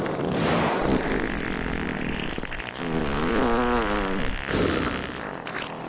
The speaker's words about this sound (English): I hate to say this, but I think they're farting at us. It's a whale fraternity, a gesture of fraternal flatulence.